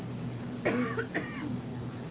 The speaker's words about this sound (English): I'm going to cough for a second. Excuse me for one moment.